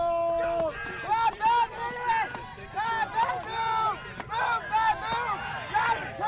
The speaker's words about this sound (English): Finger Lakes Community College woodsmen cheer their teammates on to a second-place finish in the horizontal chop.